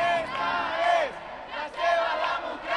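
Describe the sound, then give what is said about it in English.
Thousands of demonstrators at a street protest in Spain shout together, a dense roar of many voices that swells in loud waves, with individual raised cries rising above the mass. “Thousands of demonstrators flooded streets, and so did 8,000 police, some in plain clothes and masks, with helicopters overhead.”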